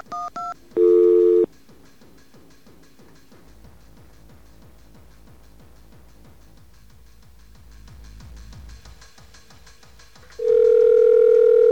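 Telephone dialing tones as a backup directory assistance number is dialed: two quick beeps and a longer tone burst, then a stretch of low buzzy line noise with faint rhythmic clicks, ending in a loud, steady tone.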